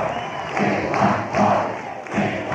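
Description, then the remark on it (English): A throng of supporters awaiting President Gerald Ford at his hotel in Kansas City for the convention cheers and shouts continuously, a dense roar of many voices with rhythmic swells roughly every half second, like chanting, sustained and loud throughout. “He traveled by presidential motorcade to his hotel, where a throng of cheering supporters awaited him.”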